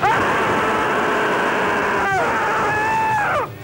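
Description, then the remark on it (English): A played recording of a loud, sustained scream held at a steady pitch, broken by a brief catch after about two seconds before a second long cry that cuts off, set against a hissy, noisy background. “There's a scream for you, winers.”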